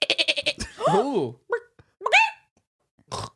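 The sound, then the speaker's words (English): A person mimics a goat with a loud, wavering bleat that rises and falls, preceded by a quick burst of rapid clicky pulses and followed by a few shorter vocal animal-like calls, as one of three requested animal imitations. “Now, the first one was a goat, and I can't do it again.”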